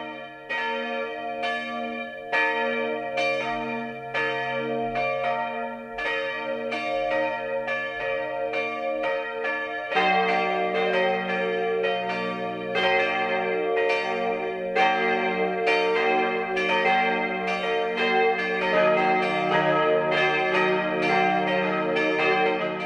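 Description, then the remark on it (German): The four bells of the St. Leonhard am Wonneberg pilgrimage church in the Rupertiwinkel, Upper Bavaria, Germany, ring the 12 o'clock midday peal, rich overlapping strikes with long humming tails, growing fuller as a deeper bell joins partway through. Loud, with no voices. “Das Mittagsläuten kommt heute aus St. Leonhard am Wonneberg.”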